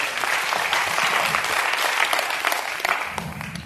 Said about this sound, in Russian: Ну, подари Богу аплодисменты.